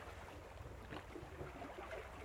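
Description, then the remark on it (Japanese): Sea water laps and sloshes steadily against something, with a low rumbling wash underneath and a couple of brief splashes standing out. No voices are heard. “音もええね。ザタン、ザタン、チャプン、チャプンって、大きな海の音じゃね。”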